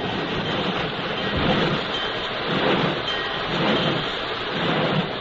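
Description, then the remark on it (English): A heavy train engine rumbles and chugs slowly, backing out of a train shed coupled to a wooden caboose and stopping beside a rain-swept station platform, a steady dense mechanical roar with low pulsing swells, with no one speaking. “A half hour later, surely no one was more surprised than Kathy when she found herself being backed out of the train shed, coupled to a wooden caboose, brought to a stop beside the rain-swept station platform.”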